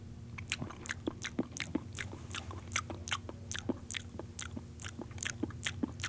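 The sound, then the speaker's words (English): A dog laps steadily, roughly twenty quick wet slurping flicks in a fast even rhythm, moderately loud over a low steady hum, with no voices. “Dog lapping.”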